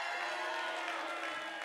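An audience applauds and cheers, a dense, steady wash of clapping and crowd noise that holds at an even loudness for under two seconds.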